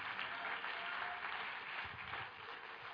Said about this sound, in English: If you hear what I'm saying, clap your hands and give the Lord praise.